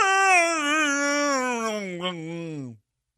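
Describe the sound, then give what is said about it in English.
A female dog of about 60 to 65 pounds lets out one long, warbling, Wookiee-like moan, its wavering pitch slowly sliding downward over nearly three seconds before cutting off, heard on its own. “Just start giving you these like weird Wookiee noises.”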